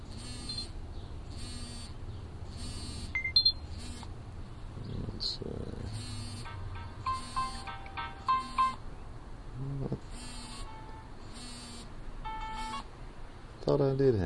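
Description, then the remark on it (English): A handheld tone generator plays a run of buzzy electronic tones in short, evenly spaced bursts, with a few clearer, higher beeps mixed in and a low hum beneath. “Now here's one that's just, there's a tone generator in here. And you can type in your own tones.”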